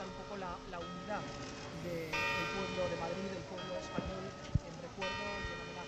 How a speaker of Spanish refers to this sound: Y siguen repicando esas campanas del reloj de la Puerta del Sol y en todas las iglesias de la región.